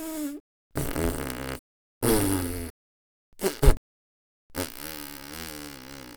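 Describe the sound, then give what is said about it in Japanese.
A series of loud farts: four separate bursts with short silences between, the third a quick sputtering double, the last a long drawn-out rasp. “嬉しいって思えば思うほどおなら出る。”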